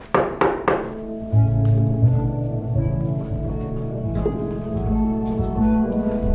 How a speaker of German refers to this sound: Mehr als 4 Monate später, um 6 Uhr morgens, klopfte es an seiner Tür.